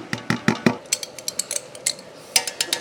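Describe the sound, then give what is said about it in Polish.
Chopped tomatoes are tipped into a pot, with a rapid, irregular run of sharp clinks and taps of a utensil against metal, with no one speaking. “Teraz wrzucam posikane pomidory do garnka.”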